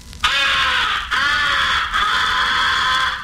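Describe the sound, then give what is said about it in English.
A crow call blown in three long, raspy caws with short breaks between, loud, sounding the crow comeback call, used on incoming crows to bring back crows that have been shot at. “The fourth essential call is the comeback call. It is used mixed with the recognition call and the fighting call on incoming crows.”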